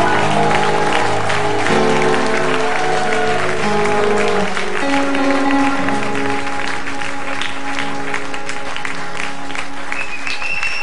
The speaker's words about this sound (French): Donnez une bonne main d'acclamation à Dieu. Acclamez Dieu.